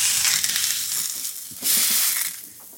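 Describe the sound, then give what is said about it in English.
A corn tortilla, splashed with water for reheating, hisses and crackles on a hot surface, a steady bright sizzle with scattered pops that surges louder midway, then eases off. No voices. “So when I reheat corn tortillas, I like to give it a little splash of water before it goes on a nice hot surface, because that kind of helps it steam and warm evenly.”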